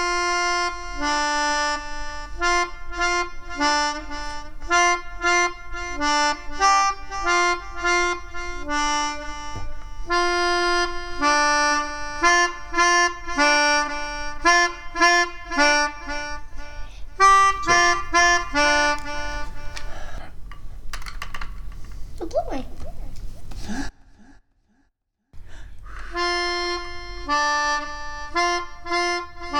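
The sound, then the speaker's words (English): A melodeon plays a lively tune of sustained reedy chords and bouncing melody notes, loud and steady, breaking briefly into rustling and a short silence near the end before resuming. “So we thought what we would try to do today is persuade the rain to go away via our melodeon.”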